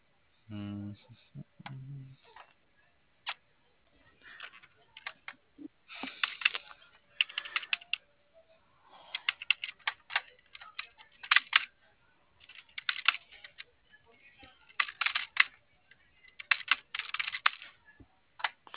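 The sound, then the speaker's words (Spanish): Rapid clusters of typing on a computer keyboard, clicking in irregular bursts with short pauses, moderately loud, a few low thumps near the start. “La 2:16, está prendido el teclado.”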